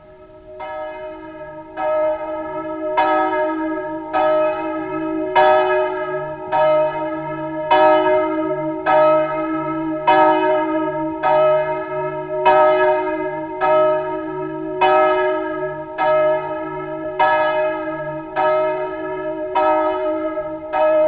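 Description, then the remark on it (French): A large church bell, the bell of the dead, tolls steadily and loudly as a man pulls its worn rope in the church tower near dawn, struck roughly once a second, each ring overlapping the last so a deep resonant hum lingers throughout. No voices. “Avec l'élan qu'il lui fit donner ce jour-là, la cloche des trépassés sonne encore.”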